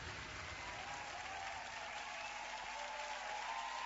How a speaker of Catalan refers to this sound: Aquí són els aplaudiments. Sí. Està baixant l'artista.